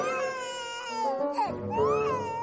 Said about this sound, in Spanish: no soporto escuchar llorar a los bebés, me vuelven loco.